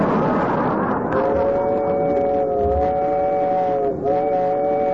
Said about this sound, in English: this is the slowest train I ever rode on. Wow. So it's rough, ain't it, too, sir? Real bumpity.